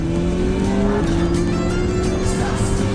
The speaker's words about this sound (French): Bon, on gagne de la vitesse. Oui, mais pas assez. Il y a une voiture rouge qui nous rattrape!